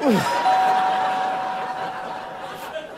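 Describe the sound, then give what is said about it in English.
A doorbell at home rings at 3:10 in the morning in one long, steady electric tone lasting a couple of seconds, fairly loud, with a faint noisy background and no one speaking. “Who's ringing my bell?”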